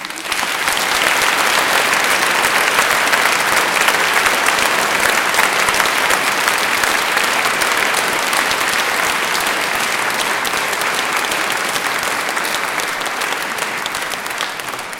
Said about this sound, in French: Je remercie tous les choristes pour leurs efforts et ils méritent bien nos applaudissements.